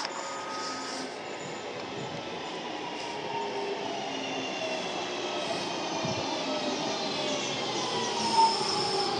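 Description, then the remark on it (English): A train rumbles steadily with a rising metallic whine as it pulls into a station platform to stop. Its drone holds loud throughout, with a brief clank near the end. No one speaks. “Okay, so the train on the opposite side has just left, mine is just coming, and the driver will actually stop more or less alongside me as it happens.”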